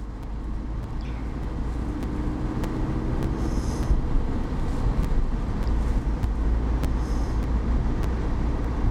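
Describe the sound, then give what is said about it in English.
Steady low rumble of a car's interior while driving, a constant road and engine drone filling the space, with occasional faint ticks and clicks over it and no one talking. “In my car.”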